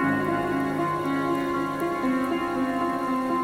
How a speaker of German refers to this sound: Geräusch des Regens hallt in den Gängen meines Gehörs.